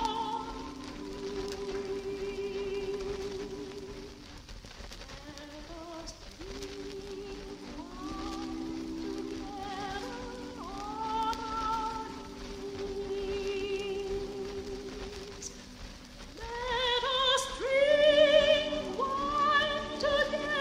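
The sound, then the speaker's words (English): An old, scratchy early 78 rpm recording of an a cappella choir singing slow, sustained harmonies with humming in the background, under a steady crackling hiss, the voices swelling louder and brighter toward the end. “Here's an early recording. I don't think it's one of these people, but it's someone early. You can hear the scratchy 78 recording.”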